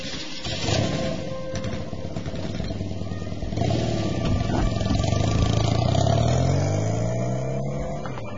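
A motorcycle engine kicks into life and idles roughly, then revs up with rising, throaty pitch sweeps before settling, loud with no voices; Ebrahim Hemmat's motorcycle being started to ride to the front line.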